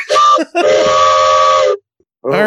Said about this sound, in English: That is an actual train whistle, too. It says, train whistle lines made in USA. It is as long as my forearm and thicker than my fist.